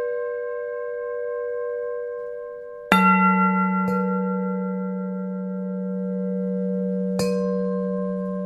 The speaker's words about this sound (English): And it's really nice to kind of sit in the studio and, besides the banging and the grinding, to hear the bells sound every now and then.